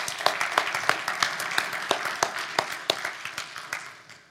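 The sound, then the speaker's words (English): A morning crowd gives each other a round of applause, clapping together in steady, dense applause, many hands making a broad bright patter with sharper individual claps popping out, holding level for a few seconds before starting to fade. “So I think we need to give each other a round of applause this morning.”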